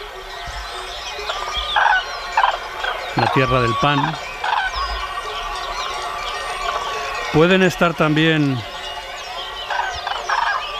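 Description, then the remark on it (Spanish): Far-off cranes trumpet in two rolling bursts of bugling calls in the Pyrenean mountain passes, with fainter calls of choughs in the background while a man speaks over the scene. “Esto es un mix, por ejemplo, cruzando los Pirineos, los collados pirenaicos, donde gritan las choas, pero de fondo a lo lejos las grullas.”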